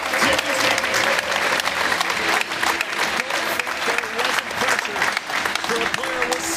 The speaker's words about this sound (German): Ja, manchmal gibt es da Applaus, wenn der Müller Tore schießt. Ja, hier bei uns auch.